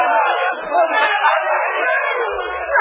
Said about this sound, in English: listen, they're booing me. Make them stop.